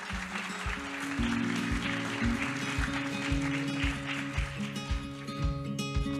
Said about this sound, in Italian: Jacopo Storni, il nostro primo ospite, accomodati. Un grande applauso a Jacopo Storni.